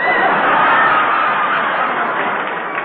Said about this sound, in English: Here comes halfback Hope running out of the field. The crowd sees him. Just listen to those screams.